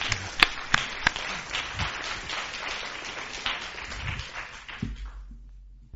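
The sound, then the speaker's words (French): An audience applauds steadily for several seconds after a presenter's talk, a dense patter of many hands clapping with a few sharper individual claps standing out, before it fades away near the end. “On peut peut-être l'applaudir, Jean, parce qu'il a fait quand même une présentation.”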